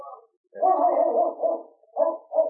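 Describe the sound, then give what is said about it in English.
A Malamute sled dog lets out a long, wavering howl followed by a few shorter, yowling barks, fairly loud, with no one speaking. “Look at that Malamute. He's a beauty.”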